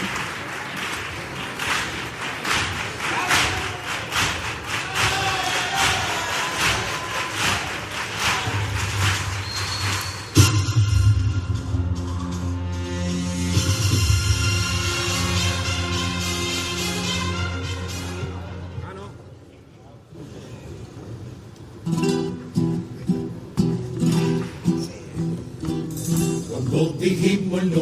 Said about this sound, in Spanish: Cuando tú vas, yo vengo. El aplauso del Gran Teatro Falla, claro que sí.